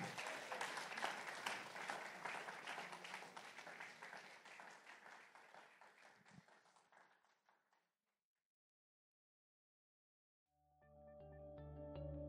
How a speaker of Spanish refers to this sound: Vamos a parar aquí, hermanos. Póngase de pie. Denle un fuerte aplauso a Jesús. Déselo fuerte al quien vive.